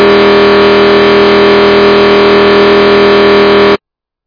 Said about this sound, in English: It's the Liverpool boat coming in.